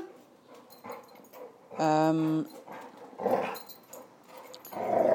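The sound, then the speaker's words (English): Dogs play-fight in a garden in the evening with rough growls and snarls. A sharp, drawn-out whine breaks in the middle, and the scuffling noise rises and falls over a few seconds. “And the dogs have just started to play, so.”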